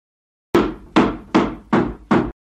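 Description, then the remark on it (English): A hammer strikes a wooden table five times in a steady rhythm to flatten a bump in it, each blow a loud, sharp thud with a brief ringing decay, and no voices. “why are you hitting that table with a hammer?”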